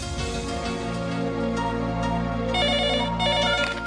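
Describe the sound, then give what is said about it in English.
A telephone ringtone plays loudly and continuously, a bright melodic electronic tune with repeating high tones and no one speaking over it. “So we'll do it on the phone.”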